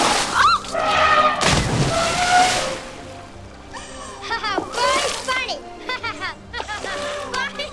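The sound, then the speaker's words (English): An elephant gives a person a bath: a big, heavy splash of water bursts out and sloshes for a couple of seconds, then quieter splashing continues under a stretch of high, chattering vocal sounds. “The elephant disagreed and decided to give … a bath instead.”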